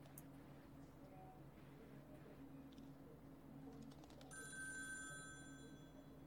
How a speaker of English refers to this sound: Ring, ring on the phone now. Answer me because I'm Nicolas Cage as a phone.